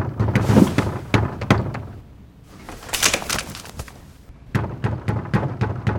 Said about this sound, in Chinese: 一段急促的敲门声响起